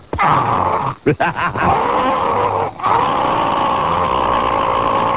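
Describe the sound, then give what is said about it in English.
A voice imitates a smoke alarm going off inside a house with a loud, sustained, shrill tone, broken by a few quick stutters near the start and one short pause before it continues steadily to the end. “Meanwhile, while this is going on, I hear from inside my house, smoke alarm.”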